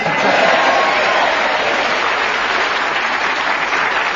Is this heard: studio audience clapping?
yes